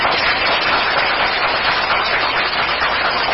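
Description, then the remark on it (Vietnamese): A large crowd of Buddhist followers applauds loudly and steadily to welcome the monk Thầy Pháp Hòa for his first talk in the state, a dense, continuous wash of many hands clapping with no pauses and no voices heard over it. “Và hôm nay là lần đầu tiên thầy Pháp Hòa giảng ở tiểu bang này, Phật tử cho một tràng vỗ tay thật lớn.”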